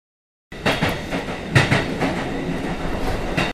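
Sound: train running on rails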